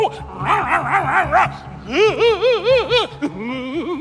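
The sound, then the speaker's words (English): A female dog barks and yips in quick rhythmic bursts, first a lighter series, then a louder run of high-pitched barks, trailing off into a short whiny yelp. “Way to save the Titanic, lady dog.”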